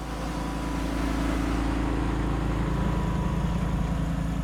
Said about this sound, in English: It's feeding time at a catfish farm just north of Belzona, Mississippi. A truck moves slowly along a levee next to a catfish pond, spraying out small pellets of special protein-rich feed that hungry catfish swarm to and gobble up.